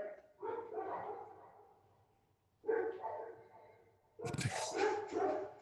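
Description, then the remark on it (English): Dogs bark and yelp in three bursts, the last one loudest and harshest, with brief pauses between them and no one talking. “My dogs are on some shit.”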